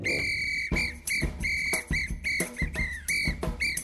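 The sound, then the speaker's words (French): A high, sustained melody played on a whistle rides over a steady samba beat with punchy drum hits, the notes held and briefly broken in a repeating rhythmic pattern, loud with no talking. “dis-moi, dis-moi, comment fais-tu donc pour siffler? Facile, j'en couvre les lèvres et là je dépose un sifflet.”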